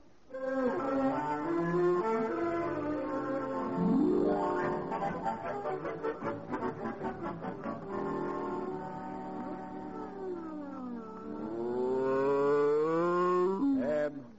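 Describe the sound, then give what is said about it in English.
A cow moos loudly in long, drawn-out calls with rising and falling pitch, including a rough, pulsing stretch midway, continuing for several seconds with no talking. “I'm going to milk the cow.”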